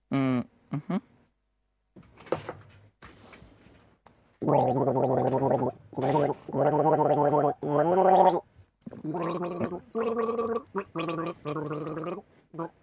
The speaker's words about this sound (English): Yes, so, rules for gargling. Don't take too much water because it's going to end in tears.